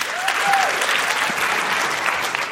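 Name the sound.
audience applause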